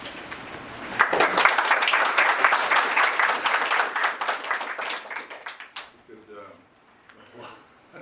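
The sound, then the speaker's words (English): An audience breaks into steady applause, many hands clapping in a dense, loud burst that holds for several seconds before thinning out, followed by faint talking. “Applause eats a lot of time.”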